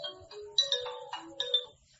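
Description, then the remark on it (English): A phone ringtone plays a bright, melodic electronic tune with several quick chiming notes, fairly loud, with no voices over it. “okay, let's put every phone on silence.”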